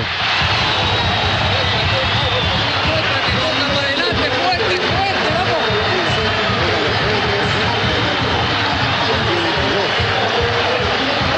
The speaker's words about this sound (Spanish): Dame un poquito de ambiente ahí. La ovación para Arturo Vidal.